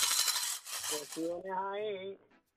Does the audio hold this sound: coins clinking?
yes